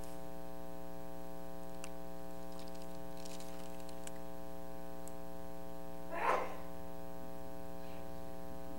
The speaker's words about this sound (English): Bless you. My wife said when she was in school, she sneezed like that and she'd get in trouble for it